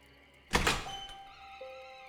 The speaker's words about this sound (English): He shut the door and paused for a moment, listening intently.